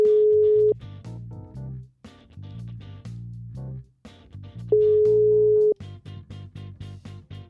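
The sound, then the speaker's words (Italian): A phone's ringback tone on an outgoing call sounds twice, each a steady one-second beep about four seconds apart, over bouncy background music that keeps playing throughout. “Squilla?”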